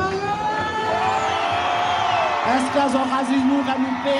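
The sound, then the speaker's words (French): Hundreds of people in Guadeloupe cheer and shout joyfully as an agreement ending a labour conflict is announced, many voices layered into a dense, steady roar with a few higher whoops rising out of it near the end. “Des centaines de personnes présentes lors des longues soirées de négociations laissent éclater leur joie.”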